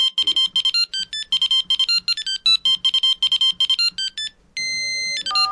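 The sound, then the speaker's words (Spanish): A mobile phone ringtone plays loud: a rapid electronic melody of repeating beeps in quick bursts, then a steady held tone and a few falling notes at the end, as someone calls a friend. “Cogió el móvil, llamó a su amigo, al único amigo que creía tener”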